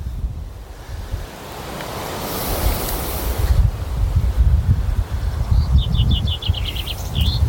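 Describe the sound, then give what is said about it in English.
Steady wind gusts rush and buffet the microphone in an outdoor war cemetery with many trees, with a low rumbling roar, while a bird's quick repeated chirps sound faintly toward the end. “There's a breeze today.”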